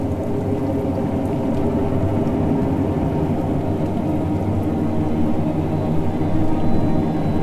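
Heavy rain pours down ever harder in a steady, dense roar as a thunderstorm approaches, with a low rumble of thunder rolling far off beneath it. No voices, just the constant wash of the downpour.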